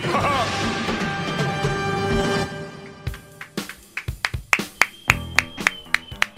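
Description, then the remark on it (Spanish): A dense wash of sound with a sustained tone fades out, then a dozen or so sharp, loud claps follow at an uneven pace, a small, scattered round of applause welcoming a presenter introduced as the maestro. “Déjele aplaudo bien, maestro.”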